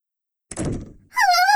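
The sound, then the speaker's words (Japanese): A door swings shut with a dull thud on a visitor who has just introduced herself, after a moment of silence, followed immediately by a short, high wavering squeal. “ドアを閉めないでください。”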